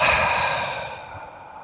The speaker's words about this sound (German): Also wir atmen tief ein, beobachten den Atem, wir bis in den Bauch fließt, tief in den Bauch, dort halten wir den Atem und atmen weit und gut hörbar aus.